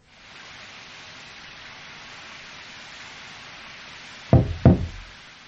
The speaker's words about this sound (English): I knocked twice, but you didn't answer your door.